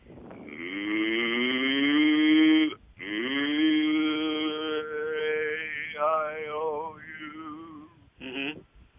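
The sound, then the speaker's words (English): A person's voice imitates a cow's moo as a singing voice exercise, with two long, drawn-out, rising-and-falling lowing calls, followed by a brief short grunt at the end. “I said, if you want to make your voice what it should be in your baritone and placement where you need to sing, imitate a cow.”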